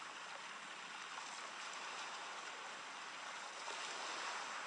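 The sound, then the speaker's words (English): Soft, steady rush of sea waves washing ashore, a continuous hissing surf that swells slightly toward the end, heard alone without voices and fairly quiet. “Perhaps you can hear the sound of the sea.”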